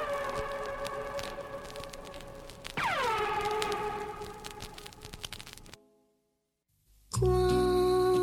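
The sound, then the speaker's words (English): Elephants being exercised indoors trumpet with brassy blasts echoing throughout the building: a long wavering call, then one that swoops sharply down in pitch, a brief hush, and another loud blaring trumpet. No one speaks. “Elephants are exercised indoors, their voices echo throughout the building. Some of their musical trumpets sound like rifle shots.”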